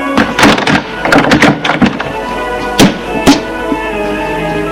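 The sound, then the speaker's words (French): A door is opened for a visitor who has rung: a quick flurry of rattling knocks and clunks from the handle and latch, then two sharp clicks, with a faint ringing tone lingering underneath. “Il sonne. C'est Quentin qui lui ouvre.”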